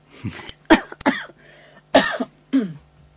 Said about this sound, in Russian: Кашель.